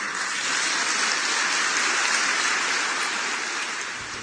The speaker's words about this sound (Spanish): En este caso, los aplausos fueron solamente de sus correligionarios.